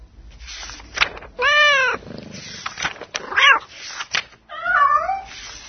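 A short program jingle built from several cat meows, some drawn-out and wavering, others brief, fairly loud over a faint background, with no one talking.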